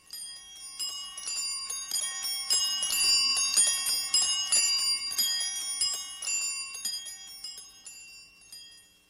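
Many bells peal together in a dense, continuous clamor of bright, overlapping chimes, swelling in the middle and easing slightly toward the end, with no voices present.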